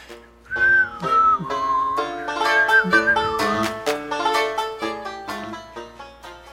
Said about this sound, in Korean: 그리고 나중에는 이것도 저것도 아닌 노래를 휘파람으로 불렀다.